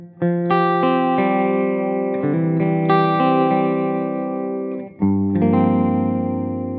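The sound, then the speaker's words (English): An electric guitar, a 335 on the middle pickup selection with both pickups up full, sent through a true-stereo modulation effect with a touch of reverb, plays sustained, ringing chords changing every second or so, loud with no one talking. “And then I just send my guitar signal to it. It's true stereo. I've got a smidge of reverb on there as well, which I really like the sound of.”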